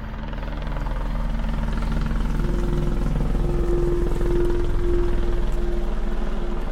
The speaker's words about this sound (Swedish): En helikopter hovrar över Hallonbergen. Polisen jagar gärningsmän.